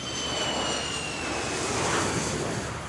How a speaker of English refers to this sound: Time to jump on a plane again. But this time we're heading for the east coast of the US, to New York.